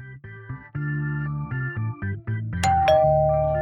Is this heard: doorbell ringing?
yes